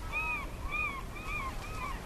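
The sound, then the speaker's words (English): Gulls on St. Lazaria island call over and over in a steady series of four harsh, arching cries, loud against a low rumbling background with no talking. “One of the recordings has gulls in the background, and so you're hearing these really obnoxious gulls that are really loud.”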